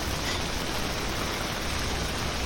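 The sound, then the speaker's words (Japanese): Heavy rain pours down during a weather warning with evacuation orders, heard from a walking path where water is flooding, in a dense, unbroken hiss that stays steady and fairly loud throughout, with no voices and no individual drops standing out. “雨の音もすごいし、水が流れ落ちる音もすごい。”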